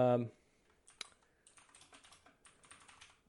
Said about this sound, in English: League updates, including. Sorry about the loud keyboard.